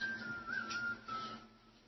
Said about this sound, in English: Who's that whistling in the background?